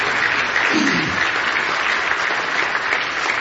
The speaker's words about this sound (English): Somebody give the Lord a hand clap of praise for that.